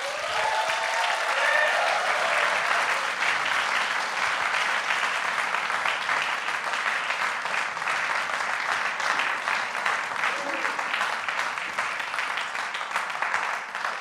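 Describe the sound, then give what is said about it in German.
A crowd claps steadily and loudly for the band before a sermon, a dense wash of hand claps sustained for about fourteen seconds with no pauses, a few whistles or cheers rising faintly early on. “Und ich finde, bevor ich jetzt anfange mit der Predigt, lasst uns doch mal so einen richtig, richtig fetten Applaus für unsere Band geben, oder?”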